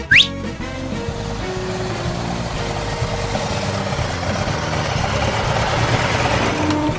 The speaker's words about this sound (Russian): Я возьму служебную машину. Вмиг домчим.